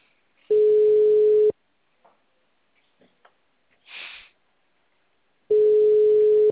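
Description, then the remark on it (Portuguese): Two long, steady telephone busy-signal tones, each about a second, separated by a pause filled with faint clicks and a brief breathy noise, then the tone returns; heard while trying to reach a client by phone, the number being busy. “Por isso que eu não tô conseguindo falar com a cliente aqui no telefone.”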